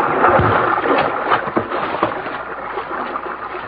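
A boat pushes through river water with a steady rushing wash, broken by irregular splashes and sloshes. The sound is loud and continuous, with no voices.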